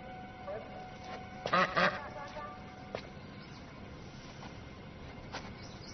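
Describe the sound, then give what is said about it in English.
A duck quacks loudly twice in quick succession, with a few softer, scattered calls afterward over a steady background hum. “Calm down. It's just a duck.”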